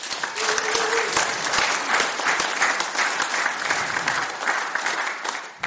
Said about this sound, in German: Und ich finde, das ist auch mal ein Applaus wert.